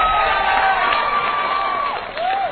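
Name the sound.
crowd cheering and applauding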